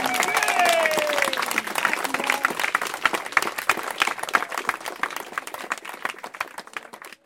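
crowd applauding and cheering

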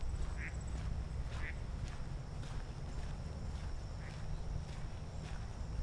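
ducks quacking

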